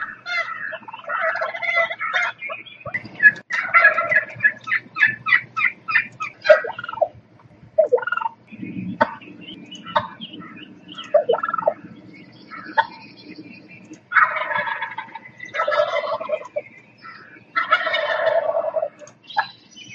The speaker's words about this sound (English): So enjoy these turkeys from the wild that sustain us during our holiday family tables into modern times.